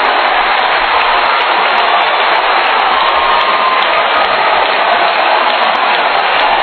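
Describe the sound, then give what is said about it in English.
A large basketball crowd roars with sustained cheering and applause after a putback dunk by Justin Robinson, a dense, loud wash of clapping and shouting that holds steady for several seconds with no clear voices standing out. “What a play, and that gets the crowd to its feet.”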